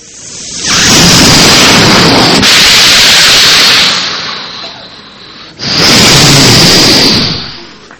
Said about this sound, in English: They're speaking to the ocean. The ocean is so big and it's roaring.